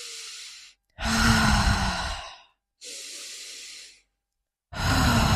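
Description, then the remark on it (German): Deliberate, heavy breathing: loud drawn-out exhales alternating with airy inhales, about four breaths in a slow, steady rhythm with short silences between. “Weißt du, kannst du so atmen, einfach so und diese Geräusche zu machen.”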